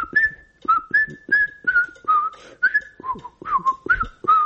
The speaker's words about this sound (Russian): такой сигнальный свист, и этим свистом тогда пользовался весь театр. Это была фуга Баха. Я сейчас попытаюсь ее просвистеть.